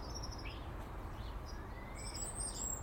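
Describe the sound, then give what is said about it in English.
Small birds chirp and tweet over a steady low outdoor rumble on a sunny winter day, with several thin, bright calls scattered across a few seconds and no voices. “And the birds are scurrying about.”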